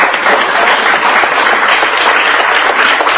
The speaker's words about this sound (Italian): un applauso anche a loro.